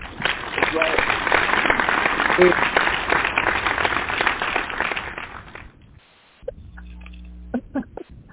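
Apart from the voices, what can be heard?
audience hand clap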